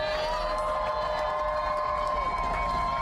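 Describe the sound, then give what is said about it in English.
An audience cheers and applauds for Starbucks workers in a steady, unbroken roar, with sustained high shouts and whoops carrying over the clapping throughout the few seconds. “Just before we take a question, since I know we have some friends here with us, if we can first have a round of applause for the Starbucks workers themselves.”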